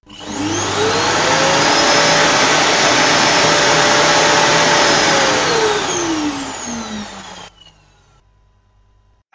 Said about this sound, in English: And Grandma's vacuum cleaner.